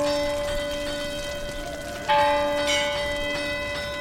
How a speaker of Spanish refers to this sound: Esta señal era captada desde el campo de San Roque, donde se tocaba la campana de la ermita para avisar a los pescadores.